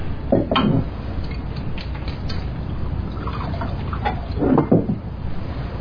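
Scotch poured straight, without ice, into a glass, with a soft glugging trickle, light clinks of glass and a brief knock, with no talking.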